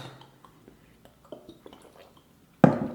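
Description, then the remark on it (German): Quiet scattered taps and faint rustling, then a single sharp, loud clink of glasses knocking together in a toast with ice-cold Beck's beer, its bright ring trailing off at the end. “prosten wir uns einfach erstmal zu.”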